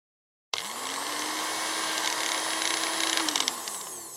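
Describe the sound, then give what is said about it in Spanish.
After a moment of silence, following a power cut and breaker switches being flipped up on the electrical panel, an appliance motor abruptly kicks on and whirs up to a steady, loud hum with a hissy whine, then begins to wind down near the end. “Se nos había cortado la luz. He subido los interruptores en el tablero eléctrico.”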